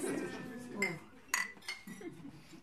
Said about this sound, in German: wollen wir erst einmal alle anstoßen? Wie sieht's aus? Ja, was zu trinken? Sehr ja, bitte. Ich sehe gehobene Gläser, na dann, Chin Chin, Ladies. Chin Chin, vielen, vielen Dank.